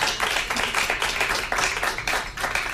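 A steady burst of applause from a small audience, with many hands clapping in a dense, sustained patter that holds at an even loudness throughout.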